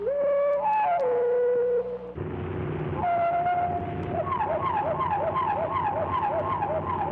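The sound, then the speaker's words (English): Clear, sustained whistled notes from a thrush step between pitches, then a towhee song follows: one long whistle and a quick, steady run of repeated chirping notes. “Here's the thrush's response, followed by an example of the Towhee's use of it.”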